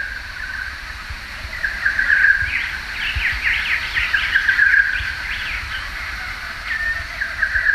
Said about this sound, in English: But there's one bird that's dominating the recording throughout its whole length, and that's an olive-backed oriole. So an olive-backed oriole is quite a large bird, maybe the size of a butcher bird, and it's quite an attractive bird.